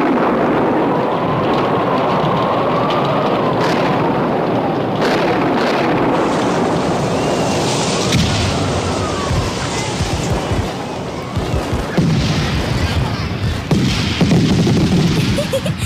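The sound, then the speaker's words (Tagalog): A dense, roaring wash of noise with scattered sharp bursts of New Year fireworks exploding steadily and loudly, with crackling pops clustering toward the end. “Ang ganda! Ang ganda-ganda ng fireworks!”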